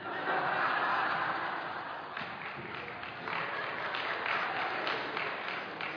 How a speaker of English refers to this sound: That was the sisterhood cheering right there.